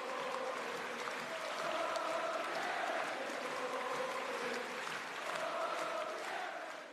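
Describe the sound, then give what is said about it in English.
A large rally crowd claps and cheers continuously, a dense wash of applause with rising and falling shouts and whoops layered on top, steady and loud throughout. “And he struggled to stop people clapping, didn't he?”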